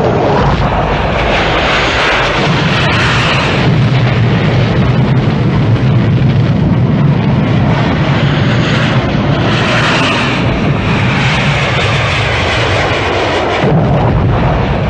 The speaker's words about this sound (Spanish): Días para las 12 del día, dos aviones Hawker Hunter de la Fuerza Aérea de Chile comenzaron a bombardear La Moneda, lugar en el que presidente Allende puso fin a su vida.